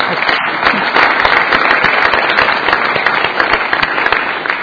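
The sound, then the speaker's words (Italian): An audience claps steadily throughout, a dense wash of overlapping handclaps at a sustained, fairly loud level with no pauses. “possiamo applaudire anche?”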